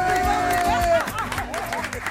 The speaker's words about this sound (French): On l'applaudit.